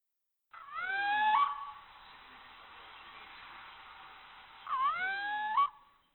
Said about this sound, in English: The owls in the wood behind me call once, twice. It seems too sleepy a sound for hunters.